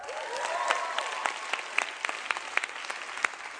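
A small group claps steadily for the maker of a film at a Teen Church gathering, a dense patter of overlapping handclaps with sharper individual claps popping out, lasting several seconds at moderate loudness with no one talking.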